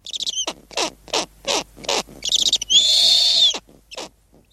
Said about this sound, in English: Here's a snowy owl chick calling for its mother during the winter.